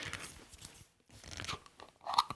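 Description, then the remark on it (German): A glass jar's lid is twisted open with rough, crunchy scraping and grinding in short bursts, a brief pause, then a sharper bright click near the end and no pop. “Und jetzt mache ich ihn mal auf.”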